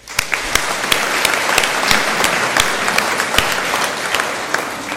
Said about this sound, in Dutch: En eigenlijk is dat wel een heel grote applaus waard.